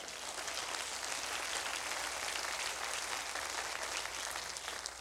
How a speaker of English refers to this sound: Somebody ought to clap right there.